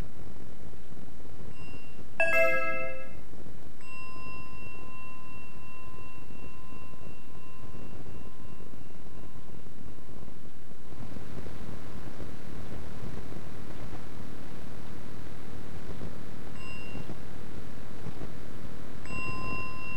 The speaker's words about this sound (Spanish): A mí me llama la atención que ya a veces no digo nada, en vez de decir, oye, callado, tal, cojo la campana, doy el toque de aviso.